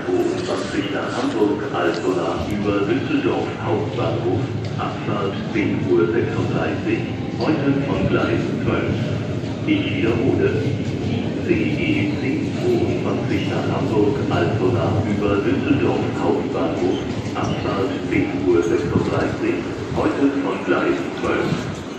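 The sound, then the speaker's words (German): A train rumbles steadily into a busy station on the opposite track, a loud continuous roar with rattling over it, while people's voices murmur throughout in the surrounding bustle as everyone starts running. “Fangen jetzt alle zu rennen an, weil der Zug jetzt auf dem Gleis gegenüber fährt.”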